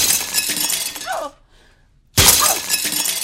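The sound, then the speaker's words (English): Windows of a house shatter in two loud, bright crashes about a second apart, each a burst of harsh breaking with tinkling shards, separated by a brief near-silence. No one speaks. “I broke down one night and screamed at him and broke all the windows in the house.”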